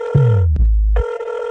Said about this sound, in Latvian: Kāpēc necel telefonu?